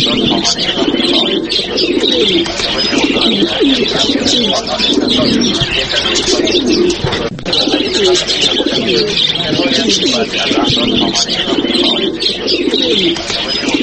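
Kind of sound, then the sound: bird, pigeons cooing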